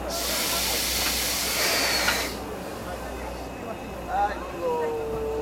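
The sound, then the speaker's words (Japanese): A steam locomotive, the SL Ginga on the Kamaishi Line in Iwate Prefecture, Japan, on its final day of service in June 2023, vents a loud rush of hissing steam for about two seconds, then it cuts off, leaving a quieter background with faint, wavering tones. “SL 銀河、東日本大震災の復興支援として2014年からおよそ9年間、岩手県の釜石線で活躍してきました。”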